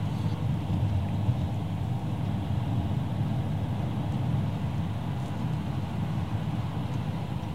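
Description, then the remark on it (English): Steady low rumble of road noise from inside a moving car with traffic behind it, a constant engine and tire drone filling the low end with no voices. “Pissing off the traffic behind me.”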